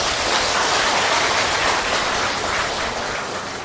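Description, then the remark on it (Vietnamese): An audience at a Buddhist high school applauds its teaching monks in a dense, steady wash of clapping that holds at an even, fairly loud level for several seconds, with no voices over it. “Xin cho một tràng vỗ tay chung.”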